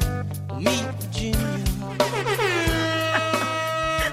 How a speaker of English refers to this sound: It's my favorite sound effect we have ever done. Okay, so the air horns are totally warranted because this is a huge victory and also a watershed moment for the women's rights